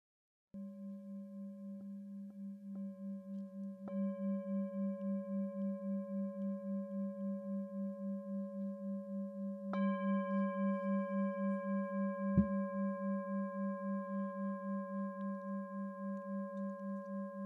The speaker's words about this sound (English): And aware of the bell and aware of your surroundings.